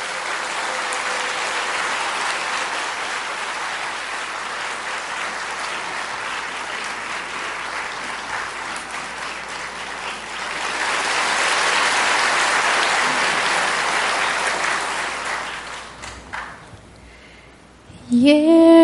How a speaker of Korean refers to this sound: 진영이 햄이 나와서 우리 찬송 한 장 가나 노래 부르겠습니다. 박수로 맞아주십시오.